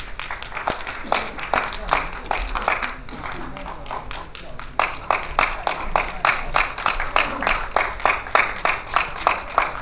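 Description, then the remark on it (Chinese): A crowd claps warmly and steadily for about ten seconds to welcome Teacher Wang, chief editor of the Jinghai County gazette, a dense patter of overlapping hand claps that stays fairly even in loudness, with faint murmuring underneath. “让我们用热烈的掌声有请王老师。”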